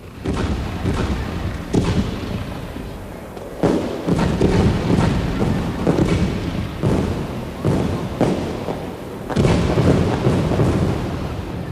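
A rapid, continuous barrage of fireworks bursting at Castel Sant'Angelo in Rome during a festival, with sharp cracks and deep booms overlapping in dense clusters, loud and sustained without pause, echoing over a rumbling background.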